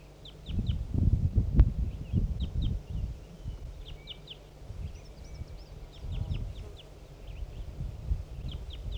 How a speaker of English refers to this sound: Some wild crossbills are coming in again. Here comes one. Must be that same female. She's back. Responding to 4-3 there.